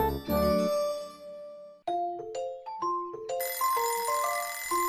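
An alarm clock rings at 6:30 in the morning with a bright, tinkling melody: one chime rings out and fades, then a quick run of high electronic notes steps up and down, loud and steady, with no voices.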